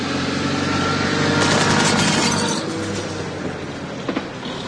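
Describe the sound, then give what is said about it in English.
A car engine roars, swelling to a loud peak as it speeds past, then fades away down the road. Sharp rattling bursts cut through the noise as it passes. “The car's coming! Get down!”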